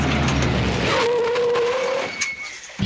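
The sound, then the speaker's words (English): A truck roars past, a loud continuous rush of engine and road noise with a rising, whining mechanical tone that fades near the end. “That's them, that's the truck.”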